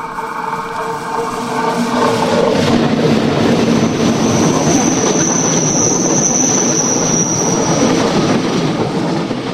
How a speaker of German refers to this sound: Jetzt kommt ein Zug, ja, da hört man das beim Gleis eigentlich ganz gut.